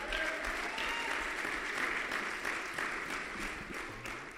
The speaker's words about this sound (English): And amen, you can applaud for that.